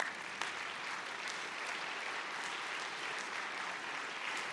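A church audience claps for God together in steady, sustained applause, a dense wash of many hands at even loudness throughout with no voices standing out.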